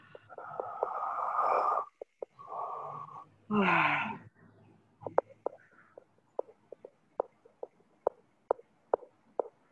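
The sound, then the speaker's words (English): A few long, heavy breaths, drawn in and pushed out deeply, followed by a faint, steady run of soft clicking taps. No one speaks. “Deep breathing.”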